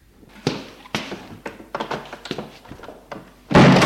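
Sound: door being shut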